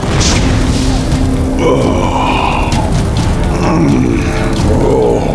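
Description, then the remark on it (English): A wildfire roars steadily across open prairie, flames leaping about 50 feet into the air, a dense, rumbling wall of noise that stays loud and close throughout, with faint crackles and hisses riding above the deep low roar. “He wheeled his horse around and followed the others as the fire roared closer.”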